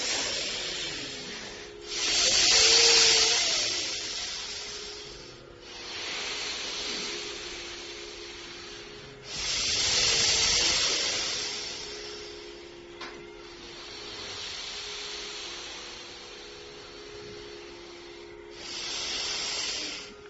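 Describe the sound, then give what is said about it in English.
Slow, deep breathing during a breathing exercise, with no talking: three strong, hissing breaths about eight seconds apart, each swelling and fading, with softer airy breaths filling the gaps between. “If you want to continue breathing, please.”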